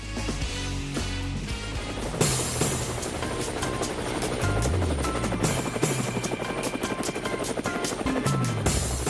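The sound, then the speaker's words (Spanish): Loud helicopter rotor blades chopping in a fast, steady rhythm over a dense engine roar, continuing for the whole stretch with no voices. “Bueno, ahí están las aspas del helicóptero, ya yo estoy montado en el helicóptero y ustedes también, móntense,”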